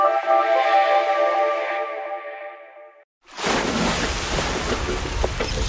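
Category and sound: nature, ocean waves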